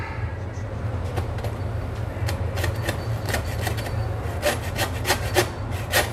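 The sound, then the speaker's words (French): A hand saw rasps through the backbone of a cut of meat in a steady series of back-and-forth strokes, over a constant low hum in the background. “Et on va y aller à la scie.”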